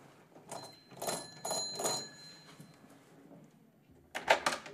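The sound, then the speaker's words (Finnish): A few bright metallic clatters and a ringing tone, then a short pause before a sharp rattle and clunk of a front door being opened by a woman. “se samankuuloinen nainen kuin puhelimessa, avaa oven.”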